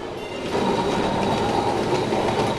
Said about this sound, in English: Luckily, she could do a little healing in Kolkata. She rode on trundling trams.